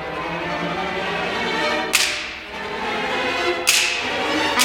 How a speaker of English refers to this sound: And finally, the whip.